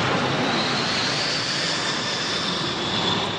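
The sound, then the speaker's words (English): Military aircraft fly past during an outdoor military ceremony, with a loud, steady engine roar that fills the air, a broad rushing drone holding constant throughout with no voices. “The outdoor ceremony was complete with a flypast of military aircraft, a 21-gun salute, a parade of hundreds of soldiers, and the end of a relay where the last Canadian flag flown in the mission was handed over to the Governor General.”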